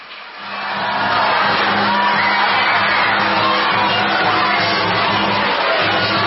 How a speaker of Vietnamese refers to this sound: Hãy cho một tràng vỗ tay thật lớn nào.